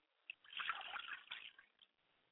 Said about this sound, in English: I pour a glass of water for my yeye, and I say, Ashe.